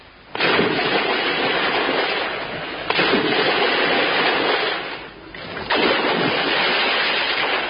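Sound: splashes into water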